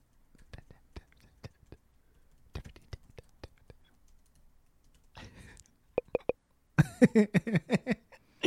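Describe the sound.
Quick, sharp taps on a computer keyboard, made to imitate pencil writing, come in two irregular bursts, fairly quiet, followed by a short scratchy rustle and then some soft, breathy vocal sounds.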